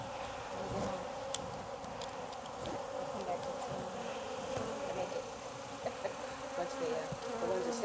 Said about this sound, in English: Yeah, it's going to be a buzzy ride home for a lot of bees. They're much calmer though than the other bees I had.